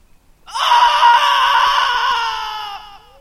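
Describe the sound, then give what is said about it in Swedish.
A woman lets out one long, loud, anguished scream of grief, anger and pain, sustained for over two seconds before it trails off and breaks, with no other sounds around it. “Amanda flämtade i några sekunder innan hon skrek ut all sin sorg, ilska och smärta.”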